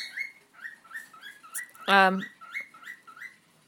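Pet budgies chirp in a steady run of short, high twitters across the whole stretch, broken midway by one louder, harsher squawk-like call.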